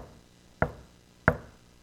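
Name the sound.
knocking on a door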